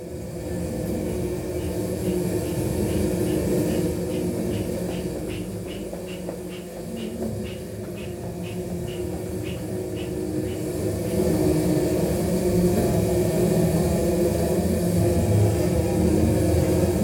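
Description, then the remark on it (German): A synthesizer built from recycled parts imitates the inside of a beehive during a live performance: a dense, low droning hum, with a steady run of high, ticking pulses through the middle, swelling louder toward the end. “Mit Hilfe eines Synthesizers aus recycelten Bestandteilen nimmt er uns mit in das Innere eines Bienenstocks.”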